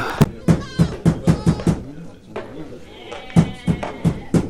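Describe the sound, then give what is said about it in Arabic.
Two quick series of knocks on the wooden door of Mulla Hadi's house, about six raps, a short pause with a faint voice, then five more. The knocks are firm and evenly paced. “اطرق الباب بشكل لا يشك فيه الملا بحضورنا نحن.”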